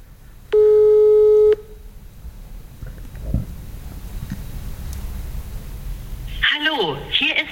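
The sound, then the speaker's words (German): A single loud, steady telephone ringing tone sounds for about a second over a call line on a repeated call attempt, followed by low line hiss and then a brief burst of someone talking. “Stimmt, jetzt klingelt es auch viel aggressiver.”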